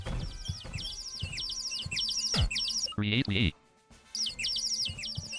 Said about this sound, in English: There's a bird.